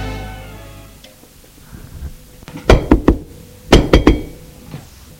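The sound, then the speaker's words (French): Two quick sets of three knocks on a door, sharp and loud, with a short pause between the groups, following a fading low tone. “On a frappé à la porte.”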